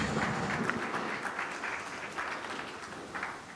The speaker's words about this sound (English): Big applause, please.